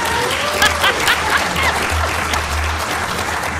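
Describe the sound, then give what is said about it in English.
Steady audience applause, dense crackling claps filling the whole clip at a fairly loud level, with a low hum underneath and a few faint voices mixed in. “Earned applause. That's good.”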